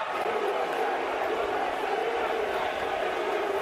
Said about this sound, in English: If there's ever a time for a USA chant, it's when a bunch of protesters run out.